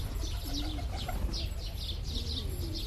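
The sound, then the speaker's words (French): Migratory birds call in the reeds at Koleachmat, a stopover between India and Uzbekistan: repeated chirps in quick bursts over a steady low rumble of wind or water, with a few deeper coo-like notes mixed in, continuous throughout. “Koleachmat est une étape pour les oiseaux migrateurs qui partent d'Inde pour rejoindre l'Ouzbékistan.”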